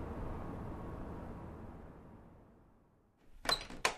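An old door in the computer/guest room of a house swings open with a long, low scraping rumble that slowly fades, followed by two sharp wooden clunks near the end. No one speaks.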